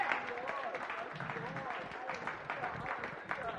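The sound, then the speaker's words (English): An audience claps and cheers together, a steady wash of many hands with overlapping shouts and voices running throughout at an even, fairly loud level. “Why don't you clap and stand up and rejoice over that?”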